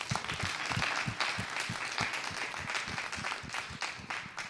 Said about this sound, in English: And give a big applause to this guy for the conference. Amen. Big applause.